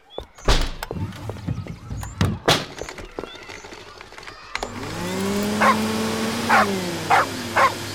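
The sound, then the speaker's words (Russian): A female dog barks at a vacuum cleaner in sharp, scattered bursts, then keeps barking in a steady run of loud barks over the rising hum of the vacuum cleaner, which is switched on partway through to clean up soil spilled from a flower pot. “ну чего ты разлаялась? Это всего лишь пылесос.”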